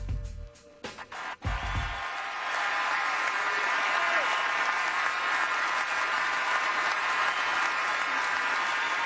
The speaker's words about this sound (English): It's kind of odd, isn't it? Thank you. The round of applause. Thank you. What else are you supposed to do?